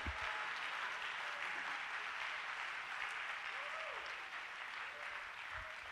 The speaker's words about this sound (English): Clap your hands to the Lord and give him praise.